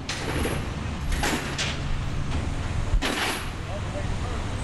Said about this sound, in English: It's noisy work, even when the crew is just getting set up, like working with heavy chains, securing a piece of equipment on a flatbed truck.